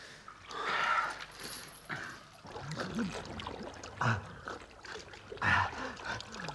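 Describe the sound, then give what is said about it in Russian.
Water rushes along in a stream at the edge of a swamp at dawn, with a steady, hissing flow, broken by a few louder splashy bursts, moderately loud, with no one talking. “Ручей.”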